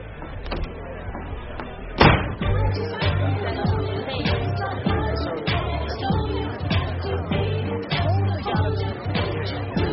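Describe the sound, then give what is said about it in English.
A sharp knock or thump lands on a door at a bar, followed by the clatter of it being opened, with muffled voices and room noise continuing underneath. “Hey, babe, get the door.”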